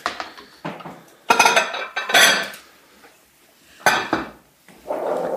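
Large plates clink and scrape against each other in several sharp bursts as they are lifted out and stacked during a barbecue, with short pauses between and no one talking.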